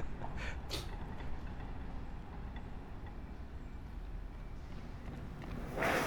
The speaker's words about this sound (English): And everyone likes the sound of a train in the distance